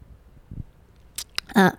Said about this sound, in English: And I'm just drinking my coffee as well, so if I have to take sips of coffee, I might have to take a long little, like a few second breaks to take a few sips of coffee.